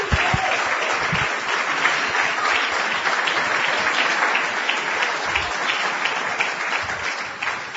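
An audience claps steadily, a dense, even wash of many hands sustained throughout at a fairly loud level, with no voices rising above it.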